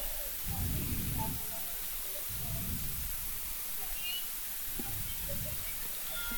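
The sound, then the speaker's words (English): Steady rain hisses across an open outdoor ballfield during a game, coming down a little harder, a constant wash of noise throughout, with low muffled voices rising and fading underneath at intervals. “Rain's coming down a little harder now”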